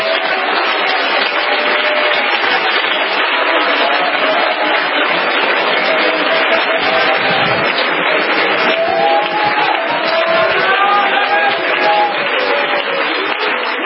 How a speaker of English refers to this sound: Come on, let's give them a hand clap, everybody.